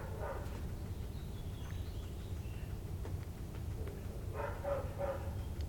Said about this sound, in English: Apparently, the neighbor's dog is choosing that he is going to be a barky dog for the rest of his life.